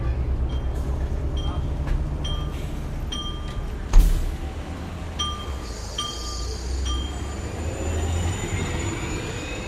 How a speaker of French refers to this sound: J'entends le ronronnement du bus qui s'envole jusqu'à Vénus. J'écoute le ronronnement du bus qui s'envole jusqu'à Vénus.